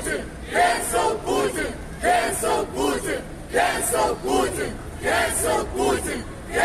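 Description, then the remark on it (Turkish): Russians and Ukrainians at a daily anti-war protest against Russia's invasion of Ukraine at Beyoğlu Oda Kule, Istanbul, Turkey, chant slogans like "no to war" and call Putin a war criminal, many voices shouting in unison in a steady repeating rhythm of short bursts, loud and energetic throughout. “Putin'in savaş suçlusu olduğunu haykıran, savaşa hayır diye İstanbul'un göbeğinde slogan atan Rus ve Ukraynalılara özendim doğrusu.”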